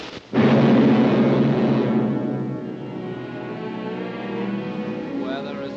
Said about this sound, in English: They spark. That's the lightning. They kiss. Thunder.